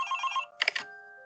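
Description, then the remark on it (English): A short electronic phone ringtone: a rapid warbling trill of bright tones, then a brief burst of chiming notes that trail into sustained beeps, fairly close and clear with no talking. “That's what your phone sounds like.”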